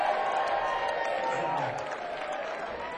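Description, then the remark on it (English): A crowd applauds and cheers in a steady, dense wash of clapping and voices that holds at a fairly even loudness for the full three seconds. “Now that is fantastic, and you can give yourself a round of applause because you're still standing here with us today.”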